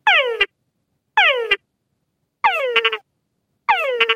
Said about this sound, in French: Le nom de ces grenouilles, tungara, est une onomatopée qui dérive des appels complexes des mâles. Tun correspond au gémissement initial. Et gara correspond aux deux tchaks. Gara, tun, gara, tun, gara.